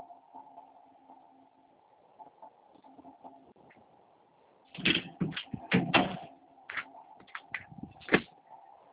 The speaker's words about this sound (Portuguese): É só um pouquinho, deixa eu só fechar a porta aqui.